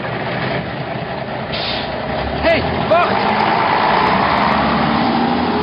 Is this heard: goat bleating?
no